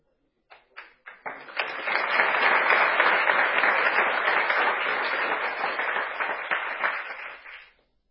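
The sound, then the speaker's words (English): An audience bursts into premature applause during a retelling of the story of Lord Ram breaking the bow. A few scattered claps quickly swell into sustained, dense clapping that holds steady for several seconds before tapering off abruptly. “It is not over. You have clapped prematurely.”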